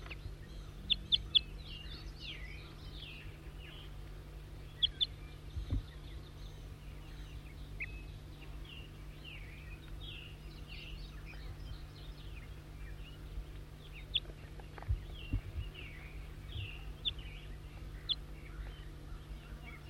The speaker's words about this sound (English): Wild bird.